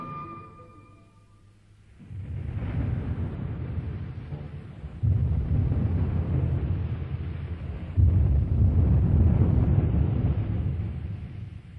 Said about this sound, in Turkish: Gök gürültüsü onu hamd ile, melekler de ona olan korkularından tesbih ederler.